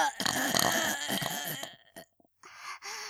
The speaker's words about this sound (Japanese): 旦那様のおちんかす、ごちそうさまの感謝のゲップ、いきますわ。